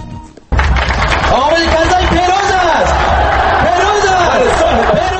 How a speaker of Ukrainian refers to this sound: Ці вигуки лунали на передвиборчому мітингу прихильників чинного президента ще за кілька тижнів перед виборами.